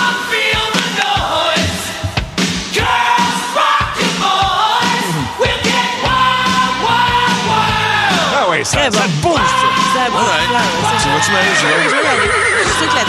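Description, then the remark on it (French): Loud, shrill horse neighs ring out repeatedly over about thirteen seconds, rising and falling whinnies layered with hoofbeat clatter and occasional shouting in a dense, busy mix. “On a un cheval.”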